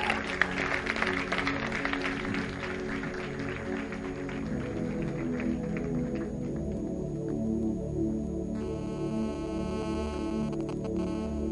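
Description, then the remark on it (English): An audience claps steadily, a dense crackle of many hands that thins out over several seconds, leaving a low hum with scattered faint claps toward the end. “No, you may clap if you want to.”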